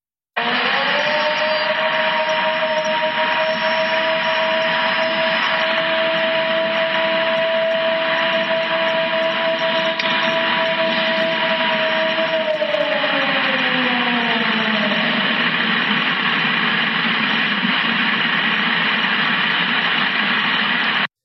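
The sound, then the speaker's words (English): A single long animal howl holds a steady, mid-pitched tone for over ten seconds, then slides downward and fades, all beneath a constant loud wash of static-like hiss. “And then you sent me the second one, which was the clip of just one howl that was going on for, 15, 20 seconds.”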